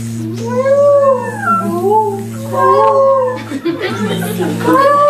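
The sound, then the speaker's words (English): A group of people imitates bees, peacocks, quail and deer all at once to recreate the sounds of the Vrindavan forest: a steady buzzing hum underneath rising, wavering yowls and calls, loud and continuous. “You do the bees, you can do the peacocks, you can do the quail, and you can do the deer. We'll all go at the same time.”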